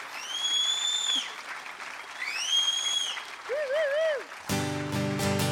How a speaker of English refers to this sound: Good whistling.